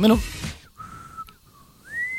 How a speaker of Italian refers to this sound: Senti come fischietto. Io non sopporto chi fischia, lo sai, mi manda fuori di testa. Meno male allora che non so fischiare. Senti, ancora non imparo.